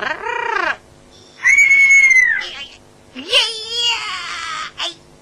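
A rare caged bird whistles and squawks in three shrill bursts, each a bright rising-and-falling call with a harsh, cry-like edge, separated by short pauses.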